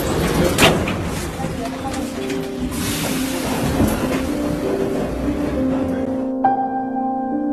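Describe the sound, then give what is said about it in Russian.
A metro train rumbles and hisses while a muffled voice announces that the doors are closing and the next station is Frunze; near the end the doors shut and a steady motor whine takes over as the train pulls away. “Двери закрываются. Следующая станция – Фрунзе.”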